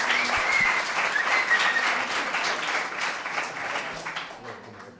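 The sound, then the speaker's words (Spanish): An audience applauding the contestants' teammates steadily, a dense wash of many hands clapping at once, loud at first and gradually easing off over about five seconds, with a brief whistle near the start. “Un fuerte aplauso a vuestros compañeros, hombre.”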